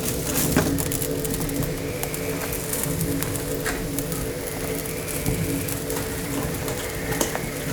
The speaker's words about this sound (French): Et le feu qui crépite vous sourit au milieu des batraciens qui, eux, n'arrêtent pas de croasser.